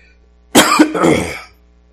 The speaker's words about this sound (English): Sorry, y'all. That's post-COVID. Cough.